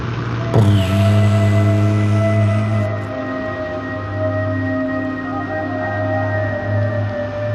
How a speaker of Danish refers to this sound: Propellerne snorer på flyene, imens de glider gennem skyerne. De har retning mod Palæstina, hvor verdens nyeste nation, Israel, lige er blevet oprettet.